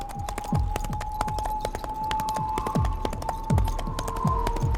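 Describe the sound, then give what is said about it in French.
Hooves of a horse ridden by a knight as fast as it can go pound in a steady, rolling gallop rhythm, fairly loud, over a faint sustained tone in the background with no voices. “Il arrivait aussi vite que le cheval sur lequel il était monté le pouvait.”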